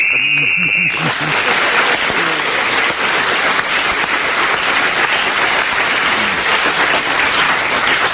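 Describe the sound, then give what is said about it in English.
An audience breaks into loud, sustained applause after a panelist's joke in a panel game round, a dense wash of clapping lasting several seconds, after a brief moment of speech at the start. “I think after that remark, you almost could have retired for the rest of the round, Clement, and the audience applauded you suitably”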